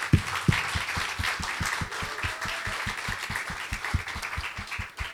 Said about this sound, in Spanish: El personaje principal es Jesucristo. Donde estamos dos o más reunidos en su nombre, está en medio de nuestro. Entonces vamos a darle al personaje principal la bienvenida acá y una fuerte, fuerte ofrenda de palmas. Vamos.